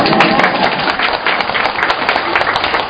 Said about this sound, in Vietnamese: Một tràng vỗ tay nữa thưa anh chị em. Vỗ tay mạnh lên.